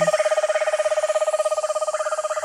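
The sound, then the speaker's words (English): A small Eastern screech owl gives a fast, even trill, a rapid stream of rolling pulses on one steady pitch that runs without a break, clear and fairly loud with no voices. “The trill.”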